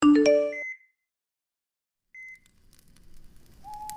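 A bright, layered mobile phone notification chime rings out, then after a pause a short electronic beep sounds, followed by another brief tone over a faint hiss of background noise.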